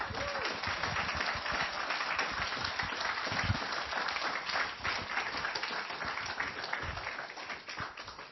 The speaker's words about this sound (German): Ich möchte euch erst noch mal ganz herzlich einladen, einen ganz fetten Applaus für die Kids zu geben.